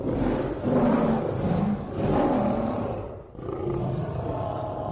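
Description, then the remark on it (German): A monster, the guardian of a castle in a children's story, roars in deep, rumbling, growling bursts that swell and fade over several seconds, growing louder and eerier, loud and continuous with a brief dip before the roaring resumes. No one speaks. “Das Gebrüll wird immer lauter und unheimlicher.”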